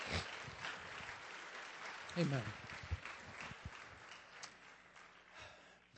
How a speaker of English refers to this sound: God is moving. Can we give him a clap offering? He's worthy. Amen.